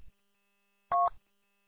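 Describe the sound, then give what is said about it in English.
An amateur radio repeater drop tone at the end of a ham radio conversation: one short, loud electronic beep made of two steady pitches sounding together, lasting about a fifth of a second, with near silence on either side. “All right, so that was a repeater drop.”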